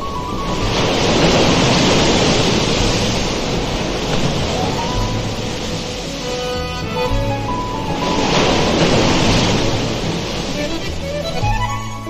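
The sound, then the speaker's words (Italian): Small waves break gently in a sheltered cove, the wash swelling and easing in two slow surges over a steady background hiss of surf. “Onde alla cala di sotto. Piccole.”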